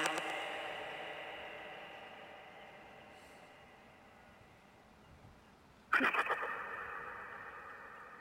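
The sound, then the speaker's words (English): A metallic, washy reverb tail rings and slowly fades, then a sudden clattering crash near the end sets off a fresh burst of splashy, boingy spring reverb that sustains to the end. “Spring reverb sound.”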